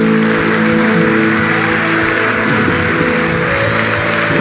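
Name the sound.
applause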